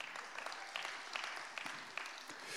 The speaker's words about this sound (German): großartig, ein Applaus.